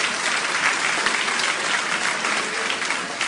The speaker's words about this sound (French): Merci de tout cœur. On peut l'applaudir, hein.